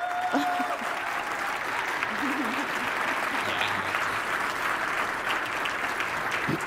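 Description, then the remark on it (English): A large audience applauds steadily for people on a stage, a dense, even wash of clapping that holds at a constant level throughout, with faint crowd murmur underneath. “Please, again, clap for these folks.”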